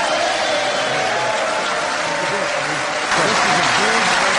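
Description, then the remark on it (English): Loud, sustained applause from a large crowd as President Barack Obama is introduced at the passage of the Affordable Care Act, a dense steady roar of clapping with murmuring voices underneath, swelling slightly louder near the end. “Granted, it was drowned out by the applause as he whispered it to then-President Obama on the passage of the Affordable Care Act”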